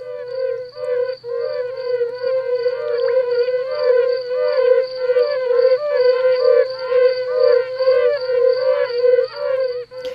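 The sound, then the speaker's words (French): A rare toad found in the local area calls in a continuous, buzzing warble, rich with overtones and steady in loudness for about ten seconds, with no one talking over it. “Un crapaud qu'on a quand même découvert donc dans nos environs. On va dire qu'il est assez rare.”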